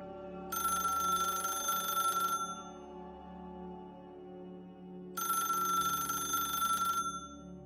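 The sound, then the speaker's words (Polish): A telephone rings twice, each long trilling ring lasting about two seconds with a pause between, over a low steady background hum. No one speaks. It is a call from a man's wife on 24 January 1995. “Dlatego nigdy nie zapomni telefonu od żony.”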